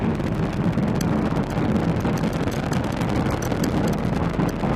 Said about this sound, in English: Vehicle is pitching downrange. Nine Merlin engines on the first stage providing 1.7 million pounds of thrust. Hearing good calls on first stage performance so far.